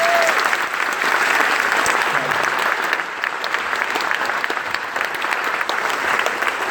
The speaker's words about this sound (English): So we owe these two guys a real round of applause and thank you.